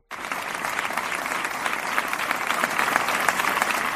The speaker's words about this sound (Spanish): Un minuto de silencio en el que han participado mandos de Guardia Civil, de Policía Nacional y también local, así como miembros de la sociedad civil sevillana. Minuto de silencio que acababa con este emocionante aplauso.